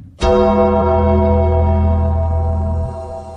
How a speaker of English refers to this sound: Where's that bell?